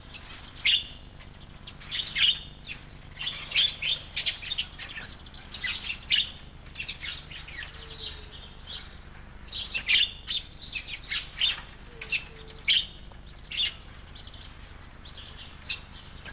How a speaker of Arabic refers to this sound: يأكل العقعق المجنح اللاز وردي الحشرات والبذور والفواكه، وهذه الطيور من عائلة الغربان، ويعيش في الغابات في أعشاش بصورة أزواج ليشكل مستعمرة.